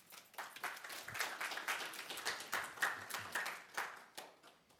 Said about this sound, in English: We can clap for her.